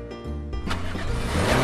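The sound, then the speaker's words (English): A car engine revs up, its low droning growl climbing and growing louder over a couple of seconds, steady with no talking. “I have one car.”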